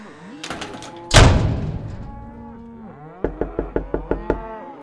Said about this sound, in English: Well, that's the last of them. Let's close this door so we can shove off, shall we?